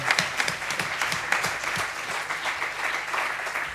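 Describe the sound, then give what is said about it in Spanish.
A crowd claps steadily for an event organizer during a series of talks, a dense patter of many hands at a fairly loud level for a few seconds, with no voices standing out. “Un aplauso para ella.”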